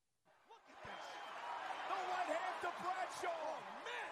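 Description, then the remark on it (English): A wrestler's rapid piston punches land as a series of sharp, punchy thuds in quick succession over a loud, roaring crowd, each impact cutting through the steady din with voices shouting underneath. “These piston punches are awesome.”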